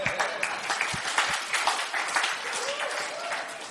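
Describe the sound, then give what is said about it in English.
A crowd asked to do five claps if they were healed 80% or more claps together in a dense, steady burst of applause that holds at a fairly even loudness for several seconds, with individual sharp claps poking through the wash. “Okay, so if you were healed before or during, and now I want you just to, now just clap your hands. If you did 80% or more.”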